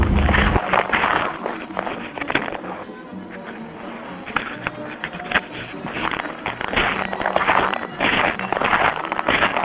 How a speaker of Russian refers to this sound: Так хрипит наш снег. Это наши шаги.